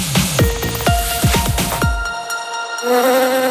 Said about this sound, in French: Un insecte? Non, un pollinisateur. Ce sont des insectes très utiles. En butinant, les abeilles permettent aux fleurs de se transformer en fruits. C'est ce qu'on appelle la pollinisation.